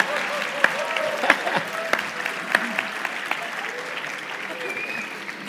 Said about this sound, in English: Clap. Thank you.